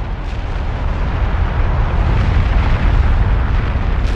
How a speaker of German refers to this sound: Sie hat ihren Ursprung auf Krakatau, einer unbewohnten kleinen indonesischen Insel zwischen Sumatra und Java. Als der Ascheregen sich gelegt hat, wird sichtbar, dass die ganze Insel durch einen Vulkanausbruch in die Luft gesprengt worden ist.